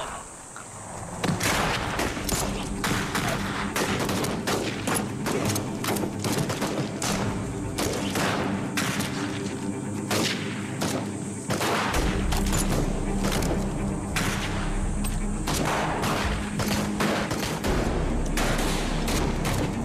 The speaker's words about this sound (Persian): همگی تفنگاتون رو پر کنین. هر وقت بهتون گفتم شلیک کنین.